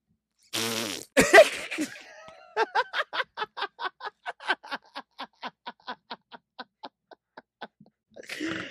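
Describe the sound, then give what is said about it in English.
A voice imitates a fart with a long, wet raspberry, opening with a burst and breaking into a rapid rhythmic sputter of about twenty pulses that slowly fade before a final short breath. “Oh, that was the best mouth fart sound ever.”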